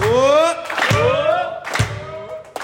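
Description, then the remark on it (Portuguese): An audience claps in a steady rhythm, about one sharp clap per second, beneath loud, sustained singing or chanting voices that dominate the sound. “Vamos nas palmas!”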